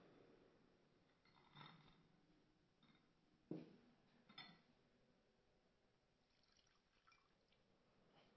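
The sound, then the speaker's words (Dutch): A small splash of water trickles into wine in a chalice, a couple of brief faint drips, quiet, with no one speaking. “Water en wijn worden één.”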